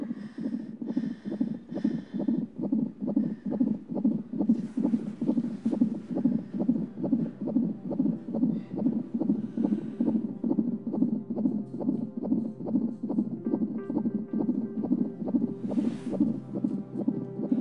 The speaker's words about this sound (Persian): از قلب منم تندتر میزنه این صدای قلب، میگه حالش خیلی خوبه.